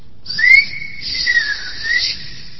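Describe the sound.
A single sustained whistle, fairly loud, rising at the start then holding a steady tone with slight wavering for about two seconds, no voices; a whistled call to summon someone.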